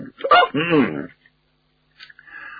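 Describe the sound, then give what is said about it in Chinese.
A man's voice imitates an old man's full-bellied burp after eating his fill at a banquet at Chun'ou Zhai: a sharp hiccup-like catch, then a drawn-out, croaky belch, loud, followed after a pause by a brief, quieter vocal sound. “老头找可口的吃了个饱，然后擦着嘴打着饱嗝出来了。”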